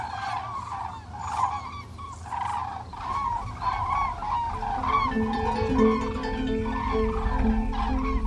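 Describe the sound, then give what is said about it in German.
A large flock of many cranes calls while flying overhead, their loud trumpeting and bugling overlapping continuously above a low rumble of wind or traffic, with no one speaking. “Jetzt kommen auch wieder Kraniche. Boah, viele.”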